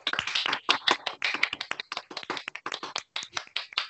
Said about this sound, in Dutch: We zijn net beginnen klappen en te klaksoneren en zo.